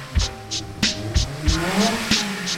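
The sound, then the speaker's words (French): A Lotus Super 7 sports car weighing 495 kg is driven at a motorsport centre in Alès, France; its engine revs with a rising note while tires squeal. Sharp bursts repeat roughly every third of a second, fairly loud, with no one talking. “Robin Longechal vous fera piloter sur la célèbre Lotus Super 7”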